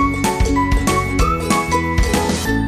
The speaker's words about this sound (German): Also Ole, komm, wir rufen ihn mal an. Klingel, klingel, wir kommen.